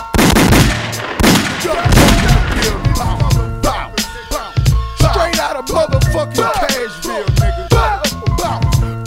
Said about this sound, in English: Buck, buck, buck, buck, buck. I need to hear a lot of gunshots, nigga.